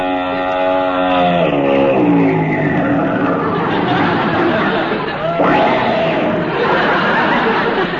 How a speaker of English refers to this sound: Hey, that looks like Mrs. Bob Orpington's big long limousine coming this way.